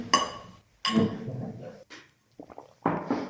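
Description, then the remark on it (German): Two bright clinks of beer glasses touching in a toast ring out, followed by a few softer clatters and shuffling sounds. No one speaks. “Ja, bei dem ganzen Gerede über Bier würde ich sagen, wir stoßen mal an.”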